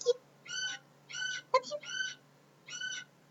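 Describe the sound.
A voice imitates tiny, kitten-like sneezes: four short, high-pitched squeaky bursts, evenly spaced, with a few soft clicks and breaths between them, fairly quiet.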